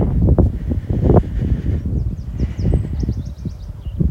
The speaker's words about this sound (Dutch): Maar ik heb de wind in mijn rug, dus dat is eigenlijk juist heel fijn.